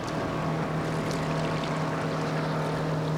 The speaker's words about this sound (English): Water sloshes against the shoreline as boats crisscross in the middle of the lake.